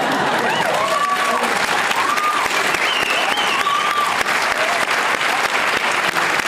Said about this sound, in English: He whips out a graph and everyone screaming in applause. I mean, that has to be orchestrated. I find it very hard to believe that that was just a spontaneous outburst.